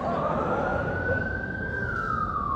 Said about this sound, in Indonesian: Dua kemungkinan. Ada orang sakit atau pejabat lewat. Kalau ambulan lewat dulu ada orang sakit. Atau pejabat lewat. Sekarang tambah satu lagi. Ustadz lewat. Ustaz sekarang lewat pakai ambulan juga. Bukan pakai ambulan, pakai sirine.